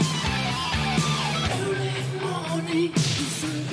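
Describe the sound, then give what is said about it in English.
Sharp, punchy snare hits crack at a steady beat over a dense 1980s rock mix of guitars and bass, each hit bright and loud on top of the band. “That snare sounds like a sneeze.”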